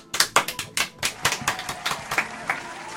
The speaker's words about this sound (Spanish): Aplauso, aplauso de radio.